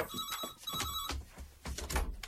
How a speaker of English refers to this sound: Answer the phone, will you? Yeah, okay.